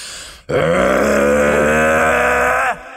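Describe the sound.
A person imitates the roar of a Mustang EcoBoost engine with one loud, sustained growling vocal rumble lasting about two seconds, harmonics rising and wavering slightly before it cuts off abruptly.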